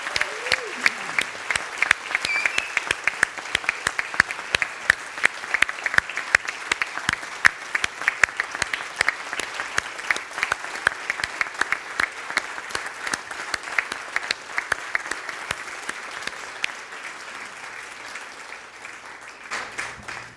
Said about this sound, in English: And he'll be stepping off of the board, and we want to honor almost a decade of hard work, hours and hours of investment that you'll never see, and we want to honor him. So can we give him a round of applause?